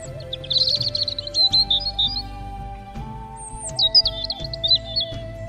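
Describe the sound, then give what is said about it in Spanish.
A bird whistles a bright, chirpy song in two quick high-pitched phrases, clear, over a soft, steady background drone, in the morning while perched on a white, snow-covered mound. “Por la mañana, un pájaro se posó sobre el montículo blanco y silbó una canción.”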